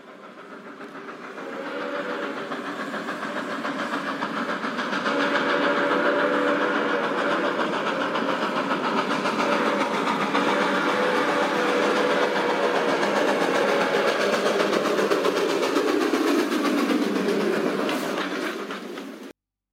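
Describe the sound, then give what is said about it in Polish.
A train in Japan rumbles steadily along the rails through an undersea tunnel over 50 km long, 100 metres under water, a dense continuous roar with a low droning tone running through it, swelling in over the first seconds, holding loud, then cutting off. “W Japonii pociąg znajduje się 100 metrów pod wodą, w tunelu o długości ponad 50 km.”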